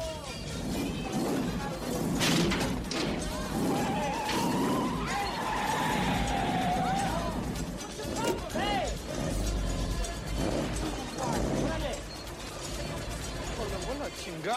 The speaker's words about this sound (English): There's guys sitting in a 64 Chevy Impala doing nothing wrong. They're just sitting there parked on the boardwalk. He crashes into them. Yeah, and he just comes up and he crashes into them and pushes their car out of the way.